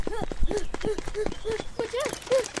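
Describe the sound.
Quick, steady footfalls thud in a running rhythm, with short voiced grunts or panting breaths landing on nearly every step, as people run away.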